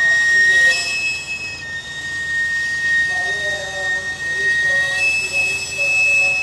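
A sweet potato vendor's stainless steel cart, pushed up a Mexico City street by a woman, lets out one long, continuous, shrill steam whistle to announce her presence, holding steady for several seconds, with fainter wavering tones beneath it and a murmur of street noise around it.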